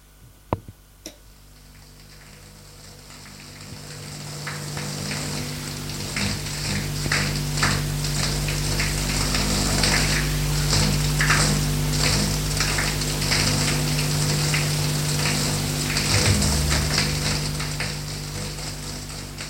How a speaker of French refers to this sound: Puis, va dans la salle de bain pour prendre sa douche.